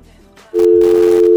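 A loud, steady telephone dial tone kicks in on a call-in line after a brief quieter stretch of line noise, holding one unbroken pitch to the end without a pause.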